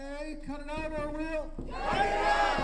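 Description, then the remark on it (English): A single raised voice calls out a drawn-out line, then a small crowd of about two dozen protesters holding picket signs on the sidewalk outside a Wells Fargo Bank in downtown Juneau, Alaska, answers together in a loud, ragged chant, a clear call-and-response exchange outdoors. “is leading a small crowd in a call and response.”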